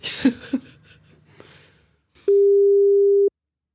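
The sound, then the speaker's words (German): A phone ringback tone from a call to a grandfather's mobile number sounds once, a steady, loud one-second electronic beep with no answer, after a few soft clicks and handling noises. “Wieso geht der denn jetzt nicht dran?”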